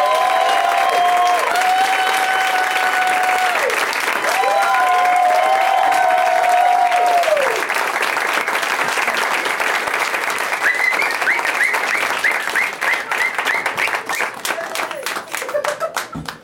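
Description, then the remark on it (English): A crowd applauds steadily and loudly throughout as guests are welcomed onto a show, with several long, high whistles rising above the clapping early on and more shrill whistles and whoops joining later. “I like it when you get the whistling out of the way early.”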